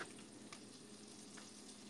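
Steady, dense frying sizzle of an egg in hot oil as oil is splashed over the egg, with a few brief louder crackles and spatters popping out of the continuous hiss. No voices.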